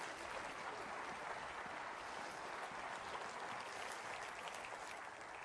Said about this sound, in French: Et voulez-vous applaudir celui qui veut vous le donner?